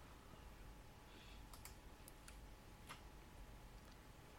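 A handful of soft, sharp mouse and keyboard clicks tap out irregularly, spaced a fraction of a second apart, over a steady low background hiss with no talking, as someone clicks through the constructors' championship standings on a computer.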